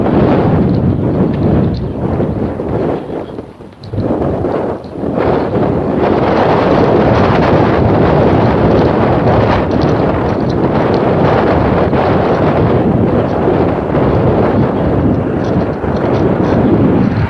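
Strong, cold wind blowing out of the east, under big black clouds, roars steadily and loudly across the microphone, a dense buffeting rush with one brief lull before gusting back at full force.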